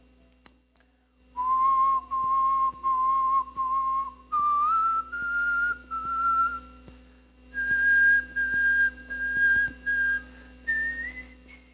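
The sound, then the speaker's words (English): A person whistles a short, simple tune, the notes held in steady phrases that step gradually higher, with brief pauses between them and no talking. “And then he'd sing, he'd whistle a little song, you know?”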